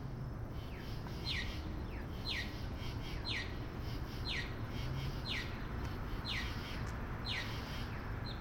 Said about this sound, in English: The katydids and crickets are some of the most emblematic sounds of our summers, but they're accompanied here by the accessible pedestrian signals. That's the beeping crosswalks that aid visually impaired people in navigating our intersections.